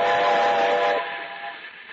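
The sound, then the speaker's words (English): A locomotive whistle is blown from the cab as the train goes over a trestle, one long, steady loud blast with a rich chord-like tone that eases slightly in strength partway through. No one speaks. “We're going over the trestle. Oh, there's your grandpa down there. Blow the whistle for grandpa.”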